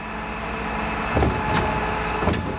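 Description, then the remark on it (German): A garbage truck of the Frankfurt waste collection idles steadily in the street with a low droning hum, broken by a few short clanks and bursts of noise. “Er ist ein sogenannter Läufer, das heißt, er läuft dem Müllauto voraus.”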